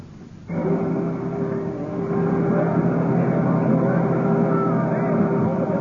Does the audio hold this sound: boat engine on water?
yes